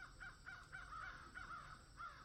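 crows cawing

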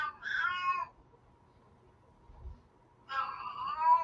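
cat meowing

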